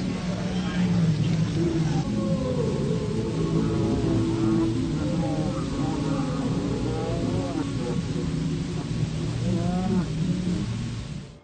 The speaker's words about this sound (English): After Jim speaks his final words and the poison was finally setting in, you can clearly hear a very alarming demonic growl, followed by faint demonic chants.